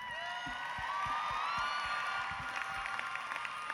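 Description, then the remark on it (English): An audience at a talent competition applauds the three finalists steadily, with scattered claps under a dense wash of crowd noise and high whistles and cheers drifting over it, holding loud and even throughout. “Let's give them all a well-deserved round of applause.”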